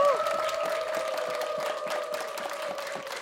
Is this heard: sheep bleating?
no